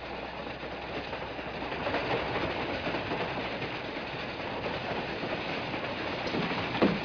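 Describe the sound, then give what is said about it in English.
An old steam train with a full head of steam, bound for Junction City at about 25 miles an hour, rolls steadily along the rails, a dense, continuous rumble and rattle with faint clacking throughout and a brief sharper screech near the end. No one speaks. “And Luke the engineer's got a full head of steam in this old tar bucket.”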